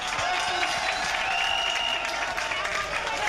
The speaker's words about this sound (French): Je vous demande de l'applaudir, s'il vous plaît.